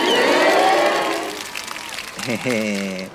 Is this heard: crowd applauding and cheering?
yes